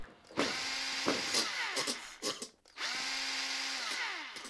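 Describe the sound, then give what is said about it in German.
A power drill whines loudly in several bursts, its pitch sweeping up as it spins up and dropping as it slows, with short pauses between runs. Harsh, no voices. Construction work on the extension building at the Deggendorf university campus. “Diese und ähnliche Geräusche hört man während der letzten Monate immer wieder am Campus der Hochschule Deggendorf.”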